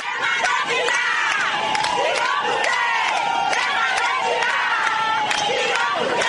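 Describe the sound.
A large crowd of ADI party militants and supporters celebrates the party's election victory in the streets the day after the elections, with many voices cheering, shouting and whooping together in a loud, continuous, excited roar that holds steady throughout.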